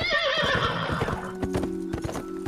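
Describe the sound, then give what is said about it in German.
A horse whinnies with a bright, quavering neigh, then hooves clip-clop in a steady rhythmic trot, fairly loud, with no voices. “Der sogenannte Cursus Publicus beförderte Post per Schiff oder Pferd.”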